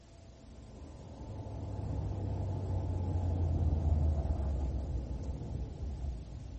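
A car's engine rumbles low and steady, swelling louder as the car drives up, then easing off slightly toward the end as it stops. No voices are heard.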